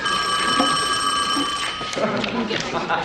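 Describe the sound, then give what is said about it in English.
An old-style telephone bell rings continuously for about a second and a half, then cuts off, while people keep talking. “phone for you.”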